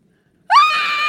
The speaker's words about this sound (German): Ah! Niemand hört ihn, wenn er schreit.